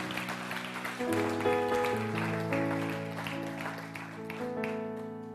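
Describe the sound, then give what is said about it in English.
An audience claps steadily for several seconds as a hand clap to the Lord for His word, a dense wash of hand claps blended with sustained organ or keyboard chords playing underneath. “Why don't we give a hand clap to the Lord for His word right now?”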